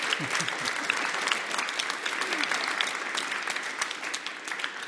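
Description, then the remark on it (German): Secondary-school students in Berlin, some from a politics class, clap steadily: dense overlapping handclaps sustained throughout at a fairly even level, with no clear voices standing out. “Und ich würde euch bitten, klatscht mal, damit unsere Hörerinnen und Hörer uns glauben, dass ihr...”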